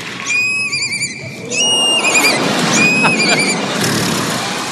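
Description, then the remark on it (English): An 11-year-old girl imitates a horse's whinny as her animal-noise talent act, a high wavering neigh that trembles and drops in pitch, repeated in a couple of bursts over a busy background hubbub. “Horse.”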